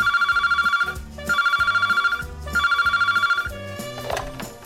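A telephone rings three times in a steady pattern of bright trilling bursts with short pauses between, set over a busy musical backing, fairly loud.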